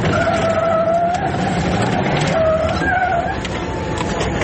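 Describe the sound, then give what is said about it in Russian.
A military Humvee races at speed through Pokrovsk at night, barely slowing on turns, tires squealing in long wavering screeches over the loud, steady roar of its engine, continuous throughout. “Сквозь визг колес и рев мотора, не добирая слов, водитель приказывает покинуть транспорт и изо всех сил бежать в подъезд.”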